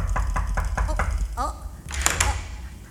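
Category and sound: household object, knocking on a door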